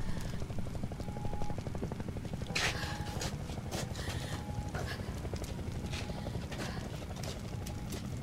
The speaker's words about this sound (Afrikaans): hoor jy dit? Wat? Hoor jy? Die helikopter! Ja, ek hoor.